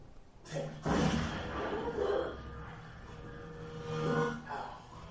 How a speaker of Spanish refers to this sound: Una de esas balas del rodaje está cargada y muere en el acto. Vais a ver el vídeo, es en el segundo disparo en el que se cuela la bala que mata a Brandon Lee, el hijo de Bruce Lee.